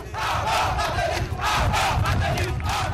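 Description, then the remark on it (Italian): A large crowd of protesters roars and chants steadily in the streets of Haiti, demanding the resignation of President Michel Martelly and Prime Minister Laurent Lamotte. Many voices blend into a loud, continuous clamor with rhythmic surges of shouting every half second or so. “C'est toute population qui est dans la rue. Plusieurs protestataires pas mettre de l'eau dans bouche pour demander démission président Michel Martelly avec tout premier ministre Laurent Lamotte.”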